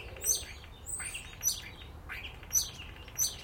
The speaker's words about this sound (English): Listen to that. One bird. Yeah. That's just bloody amazing. They're fantastic mimickers of sound.